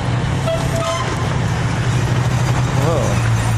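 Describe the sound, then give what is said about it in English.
A large fire truck engine idles and rumbles with a deep, steady drone as it backs into a fire station, joined by a brief horn-like toot early on and some background commotion. “Whoa. I think fire trucks are coming out.”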